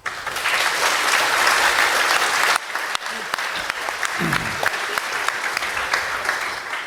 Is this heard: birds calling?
no